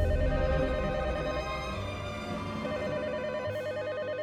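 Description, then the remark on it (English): A telephone rings steadily at night, fairly loud, its electronic warbling tone repeating without a break, with no voices over it. “But that night, we're hanging out, and the phone rings.”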